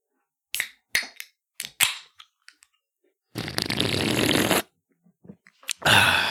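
A can of Hams beer cracks open: a few sharp metallic clicks and snaps, then a loud, steady fizzing hiss lasting about a second, followed by more clicks and another burst of fizz.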